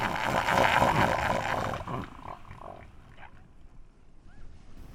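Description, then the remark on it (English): An elephant seal bull's assertive call on a Southern Ocean beach: a loud, rasping, guttural roar for about two seconds, then quieter background with faint animal calls and wind. “Every so often, a massive elephant seal will come out of the water and try their luck defying the beach master, and it can become a very ugly moment.”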